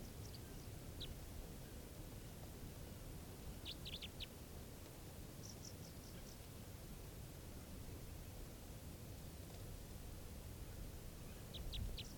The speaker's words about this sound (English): Very low pitch type 3 variant. Recording, the bird's calling now.